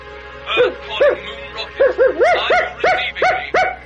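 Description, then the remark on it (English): Snowy, Tintin's dog, barks in a quick, insistent series of about nine loud barks, a few doubled up, with short gaps between them and no one talking. “Oh, sorry, but as you humans never hear what I say, I have to resort to barking.”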